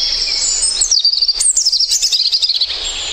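A garden bird sings a bright, high-pitched song of rapid trills and sweeping whistled notes, clear, with no voices present.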